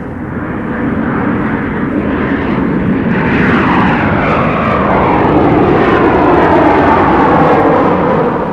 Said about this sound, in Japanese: ジェット飛行機の音なのだ。